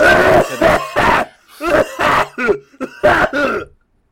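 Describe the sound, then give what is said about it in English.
A loud, close-up fit of hard, rasping coughs, about eight harsh bursts in quick succession over a few seconds, with a short pause partway through before the coughing resumes. “I didn't mean to just, like, get really close to your face and cough straight in it.”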